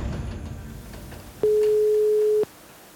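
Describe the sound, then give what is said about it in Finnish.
A single steady telephone ringing tone, about one second long, sounds clearly over a faint rumbling background as a call rings through on a rainy morning. No one speaks. “Puhelimessa.”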